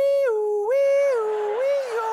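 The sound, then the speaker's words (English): A European-style two-tone police siren wails steadily, stepping back and forth between a higher and a lower pitch about every half second. It is loud and rich in overtones, with no talking. “Now, that sounds intense, but remember, it was done with those adorable European sirens.”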